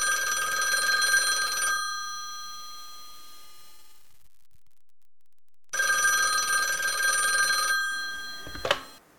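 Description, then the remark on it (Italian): A telephone bell rings in two bright, rattling bursts separated by a few seconds of silence, followed by a sharp click as the receiver is picked up to answer a call to an erotic phone line. “Al prossimo rispondo io, tu stai a sentire come si fa.”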